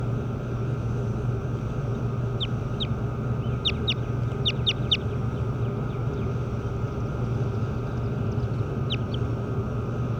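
birds calling outdoors

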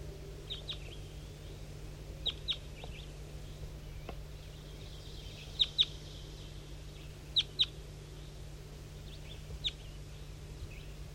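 wild birds calling

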